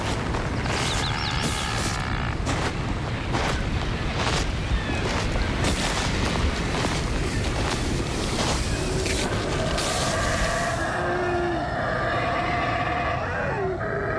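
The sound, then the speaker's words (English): Black howler monkeys roar from the forest in a deep, continuous, rumbling chorus that swells like wind and surf, with a few higher tonal calls rising above it toward the end. “Yeah, that sort of howling, roaring sound. They're howler monkeys.”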